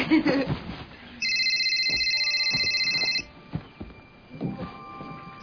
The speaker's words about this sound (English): Excuse me, I have to take a phone call.